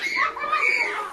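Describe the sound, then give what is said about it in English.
A group of children playing and shrieking, their high-pitched voices overlapping in a steady, busy wash of squeals and calls for about a second. “A bunch of kids.”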